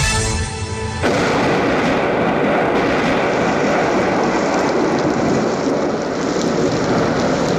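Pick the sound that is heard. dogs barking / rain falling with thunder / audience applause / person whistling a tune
rain falling with thunder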